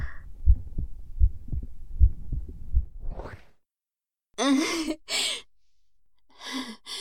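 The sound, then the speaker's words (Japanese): A muffled heartbeat, heard with an ear pressed to a person's chest, thumps steadily at a calm pace for a few seconds, then fades out and gives way to a few soft, breathy exhales. “聞こえる？だろう？心臓の音。ドキドキ言ってるよ。”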